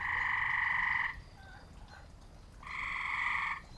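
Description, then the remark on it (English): A gray tree frog in Virginia gives two loud, steady musical trills about a second long each, separated by a short pause, with faint background chorus and low rumble underneath. “Gray tree frogs are a common and sometimes loud amphibian found throughout Virginia.”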